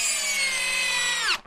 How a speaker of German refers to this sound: B war ein Bohrer und klingt deutlich härter